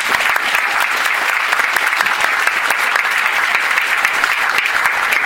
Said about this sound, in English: you really need to give her a serious applause.